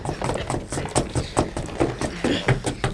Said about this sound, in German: Auf, Kollegen! Trampelt auf dem Boden herum, bis ihr eine Stelle findet, die auffallend klingt. Los, fangt an!